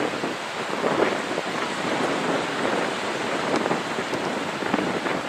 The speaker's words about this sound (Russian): ой, красотища, как хорошо волна идет. И вид такой на большое расстояние. Очень-очень красиво.